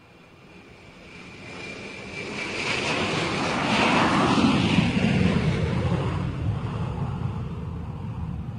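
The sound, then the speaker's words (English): A jet airplane roars past while taking off from an airport, its broad engine rumble swelling steadily louder over several seconds and then holding as a sustained roar with a faint high whine. “That's a jet airplane taking off from the airport.”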